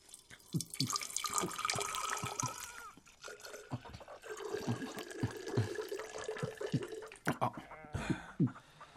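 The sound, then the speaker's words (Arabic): Clear water of Herat pours and splashes steadily into a vessel for several seconds, with bubbling gurgles and small clinks, ending in a few louder splashes and drips. “وهذا ماء هرات الزلال.”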